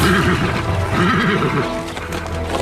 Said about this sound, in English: In Sarah's barn, Sam unsaddles his horse. The men draw up outside. Sam's horse becomes unsettled and paces round inside its stall.